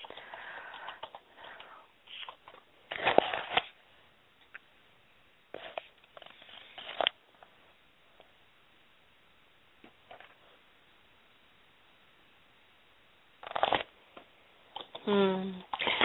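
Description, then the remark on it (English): Loud, crackly bursts of paper being rustled right next to a phone, heard through a muffled phone line in several short clusters separated by quiet stretches, with a brief voice near the end. “And is there any particular part of your life that you wanted to bring loud rustling so you could not rustle paper right next to the phone line?”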